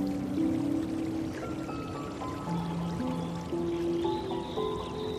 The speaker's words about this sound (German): Vergnügt planschst du mit deiner Familie. Und dann kommen sogar einige der Pferde mit ins Wasser. Der kleine gefleckte Frechdachs fängt an, seinen rechten Vorderhuf aufs Wasser zu schlagen, dass es nur so spritzt.